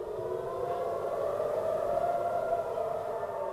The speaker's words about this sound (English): These sirens urge Tel Aviv to take shelter from incoming rockets. It's something residents here aren't used to. For the first time, rockets fired from the Gaza Strip are reaching even farther north than this coastal city.